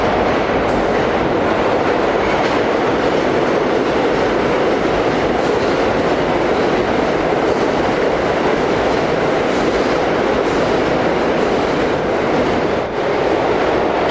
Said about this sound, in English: Oh, is this a train? Fucking hell, it's not even a train for us. Train break.